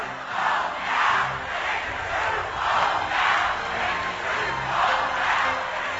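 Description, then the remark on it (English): A large crowd of protesters at an anti-war rally in Washington, led by the Reverend Jesse Jackson, screams and roars at full volume, the noise surging in repeated waves roughly every second, with no single voice standing out. “That was the Reverend Jesse Jackson leading protesters at an anti-war rally yesterday in Washington.”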